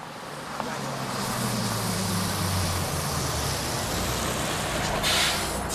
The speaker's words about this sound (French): Cuando llega el autobús 82, el señor Marigot pregunta.